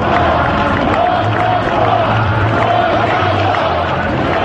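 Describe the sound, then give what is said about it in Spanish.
A large crowd, including hundreds of mayors with pro-independence flags, shouts slogans in unison in support of Forcadell, such as "Brave", "Out, out, out with Spanish justice" and "You are not alone", a dense, steady roar of many voices with rhythmic chanted phrases rising through it, loud and continuous throughout. “También al grito de «Valiente» y «Fuera, fuera, fuera la justicia española» o «No estás sola».”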